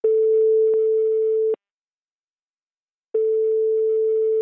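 telephone ringing tone

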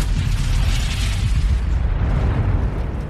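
bomb explosion

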